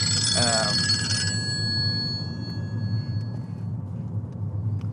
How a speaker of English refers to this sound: The phone ringing now.